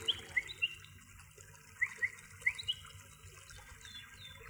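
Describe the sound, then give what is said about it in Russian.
Soft water splashing and sloshing as someone wades into warm water over a golden-yellow sandy bottom, with a few brief splashes rising over a steady watery wash and faint bird chirps in the background. “Скидываю с себя одежду и вхожу в эту приятную, теплую, как парное молоко, воду.”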